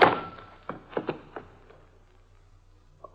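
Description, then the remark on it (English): A heavy thud from a blow to the head, struck by someone who sneaked in from behind, lands at the very start, followed by a few softer knocks and bumps that fade into quiet, with no voices. “I hang up the phone and start to turn around just in time for whoever sneaked in behind me to lower the 6 o'clock boom. I feel the thud.”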